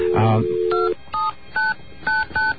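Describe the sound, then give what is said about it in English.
A steady telephone dial tone cuts off into a quick series of about six touch-tone dialing beeps, each a short, clear dual-pitched blip separated by brief gaps, heard over a phone line, dialing the exchange plus 9901 to reach the verification number of a 5ESS switch in area code 212. “By dialing the exchange plus 9901, you usually find out what the switch is.”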